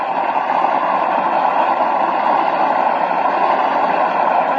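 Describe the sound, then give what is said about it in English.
A studio audience applauds loudly and steadily as Milton Berle is introduced, a dense wash of many hands clapping that holds at an even level for several seconds with no voices over it. “Did you listen to that applause, Mr. Gallup?”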